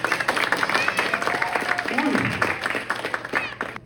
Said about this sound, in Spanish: Okay, ya, estos chicos se casan pronto. ¡Un aplauso!